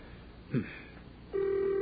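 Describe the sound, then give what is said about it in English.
A telephone call to Main Beach rings on the line: after a brief click, a steady, buzzing ring tone starts and holds with no one picking up, heard through a phone earpiece and with no talking. “there's nobody going to answer this thing”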